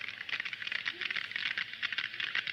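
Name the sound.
sperm whale clicks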